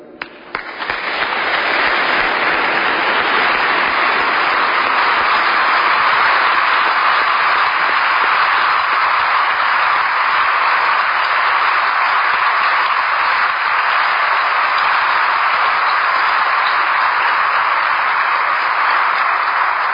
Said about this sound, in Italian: Avete sentito l'applauso di tutti i presenti a questa celebrazione, dopo il saluto e il ringraziamento del Vescovo di Assisi.